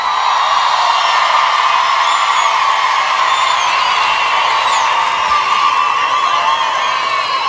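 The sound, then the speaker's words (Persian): A large crowd of people in the street cheers and shouts joyfully and continuously, a dense, steady roar of many voices with scattered higher whoops and calls rising above it, loud throughout. “این یعنی اینکه این همه شب بچه‌های هوافضا، بچه‌های سپاه، بچه‌های ارتش بشنوند شادی مردم خیابان.”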